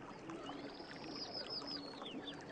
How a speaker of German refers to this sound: Du schaust dich noch einmal um und verabschiedest dich von den Bäumen, den Pilzen, den Ameisen und Kellerasseln aber auch vom Bach, der dich die ganze Zeit begleitet hat.